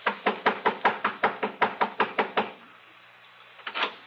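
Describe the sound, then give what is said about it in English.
A fist pounds hard on the front door of the Cartwright home in Lakewood in a quick, steady burst of about a dozen loud thuds, then goes quiet before one last heavy knock. “Within the hour, I was pounding on the front door of the Cartwright home over in Lakewood.”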